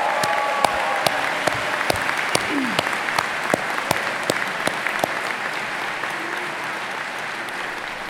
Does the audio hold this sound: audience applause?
yes